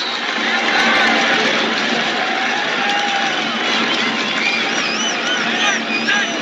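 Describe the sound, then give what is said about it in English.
A large stadium crowd roars and cheers at a USC football game as Jake Olson snaps the ball, a dense, sustained wall of voices with occasional whistles rising above the steady noise. “Listen to the crowd.”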